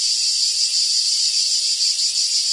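A cicada drones in a loud, continuous high-pitched buzz that holds steady throughout, with only slight pulsing and no voices or other sounds.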